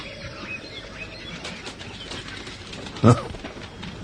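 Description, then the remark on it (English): Birds flap and call in an outdoor setting, with faint chirps over a steady rustling background and one sudden burst of wingbeats near the end. “Not the prettiest birds alive.”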